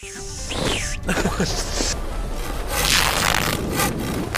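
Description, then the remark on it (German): A loud gunshot sound effect cracks out amid a dense, chaotic wash of crashing, whooshing and scraping game noises, with several sharp bursts over a few seconds and no talking. “Das war mal wieder ein Schuss.”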